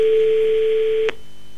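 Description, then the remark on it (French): A steady telephone line tone hums for about a second, then cuts off abruptly with a faint click as the call connects. No one speaks. “on va l'appeler, lui annoncer la bonne nouvelle.”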